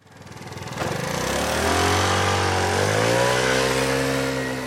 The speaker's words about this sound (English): zooms into the parking lot, he revs the motor on his moped, shifts his body back, and lifts the front wheel into the air. It's a rearing steed of glinting blue metal, popping a wheelie.